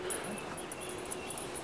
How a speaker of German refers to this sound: Ich hoffe mal, der große Hund kommt nicht auf mich zu. Ah, großer Hund, geh weg. Guck dich einfach nicht an.